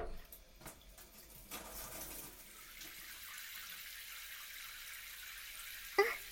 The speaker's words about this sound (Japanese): このまま泡を洗い落としていきますね。